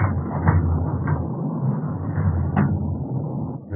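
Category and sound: household object, door being closed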